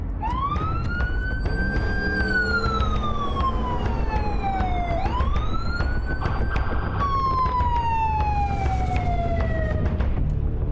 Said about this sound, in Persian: ماشینای گشت پلیس اول از همه رسیدن.